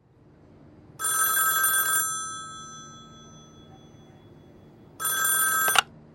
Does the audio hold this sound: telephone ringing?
yes